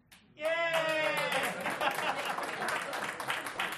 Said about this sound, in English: Yay! No one wanted to clap too hard for that one. No one wants to be seen going, please!